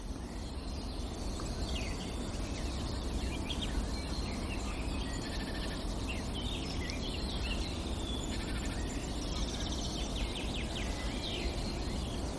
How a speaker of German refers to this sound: Hell und klar die Grasmücke wieder.